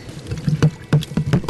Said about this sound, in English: And this mixture here, I have a little bit of sugar, a little bit of salt, and a little bit of black pepper. So all that goes in, and you want to stir it well.